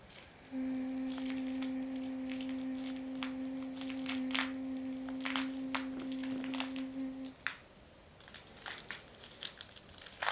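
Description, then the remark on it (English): A person hums one steady, gentle low note for about seven seconds while working with frequencies around another person's head, as soft crinkling and rustling noises come and go, then the hum stops and light rustling continues. “Working with my frequencies, you'll hear just a gentle humming as I search for things that are aligned.”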